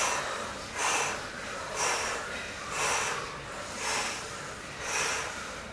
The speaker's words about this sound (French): Accélérez et ralentissez votre respiration.